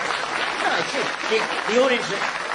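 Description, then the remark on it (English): An audience applauding: a steady, dense wash of clapping that holds for the whole stretch, with a few voices or cheers rising briefly through it. “The audience are applauding there to reinforce so how laughable.”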